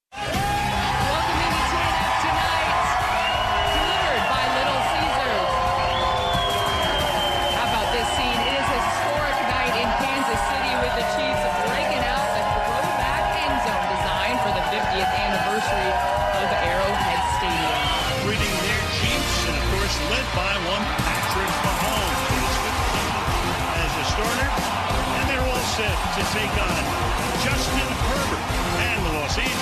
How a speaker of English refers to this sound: Could you really make out what the lovely Carissa Thompson and Al Michaels were saying there? No, you couldn't, because it was drowned out by crowd noise and music. That theme song's catchy, though.